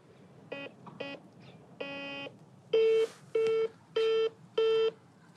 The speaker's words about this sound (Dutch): Er neemt niemand op. Het is zo'n modern bellen tableau en dat je nooit weet of je het nou goed gedaan hebt. Zal ik het nog een keer proberen? In gesprek staat er alsof er al iemand aan het bellen is.